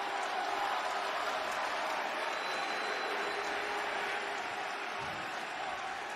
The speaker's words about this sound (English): It's funny I hear boos, but I also hear clapping. That's interesting.